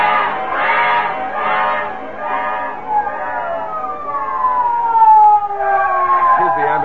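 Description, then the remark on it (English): An ambulance siren wails loudly in repeated rising and falling cycles, then stretches into long sliding tones, its volume holding steady and swelling slightly. “Call an ambulance at once.”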